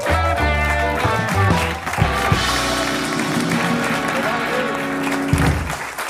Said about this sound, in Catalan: Un fort aplaudiment, si us plau